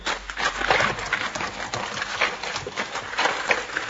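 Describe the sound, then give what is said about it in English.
Rapid hoofbeats of a horse galloping away after its rider fell from it, a dense rhythmic drumming over gritty ground that stays fairly steady and moderately loud throughout, with no voices. “Looks like my horse ran away.”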